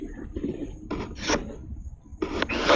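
Rubbing, squeaky friction in several bursts, like balloons being twisted and tied, with rasping scrapes that rise and fall unevenly over a few seconds.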